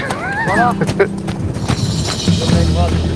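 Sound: arabian horse hooves clip-clopping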